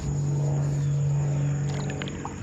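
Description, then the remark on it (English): A steady, continuous low rumble of traffic on the I-275 highway several miles away, heard from a bayou, with a droning hum running through it, fairly even in loudness and with no voices. “Further into the bayou, it's quieter, although I still hear the occasional airplane, and my ears pick up the traffic noise from I-275. Several miles away.”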